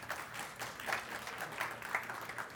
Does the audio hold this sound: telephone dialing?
no